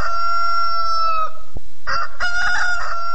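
A rooster crows loudly, a long sustained cock-a-doodle-doo that breaks off briefly, then another drawn-out crow follows immediately after, with no talking.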